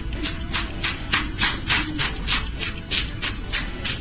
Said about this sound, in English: This woman is pretty talented, and it's all thanks to her large, fat ass. She can actually slap her ass cheeks together. She can clap her ass.